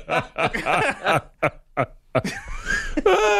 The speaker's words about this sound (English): 1, 2, 3, everybody burp.